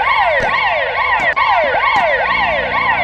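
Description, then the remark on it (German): An ambulance siren blares in the narrow alleys and streets of Gaza, with fast, repeating rising sweeps, roughly two per second, shrill and loud throughout, with a low rumble of traffic underneath and no voices. “Ambulanzsirenen und Schreie füllen die engen Gassen und Straßen akustisch.”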